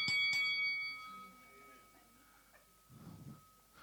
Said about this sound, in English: Keep on fighting. Keep on fighting until you hear the bell ring.